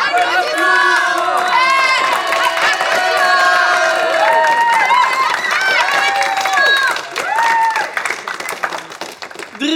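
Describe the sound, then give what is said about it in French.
A large audience claps steadily while many voices cheer and whoop over it, a dense, loud, sustained roar that continues without a break for about ten seconds. “Applaudissements!”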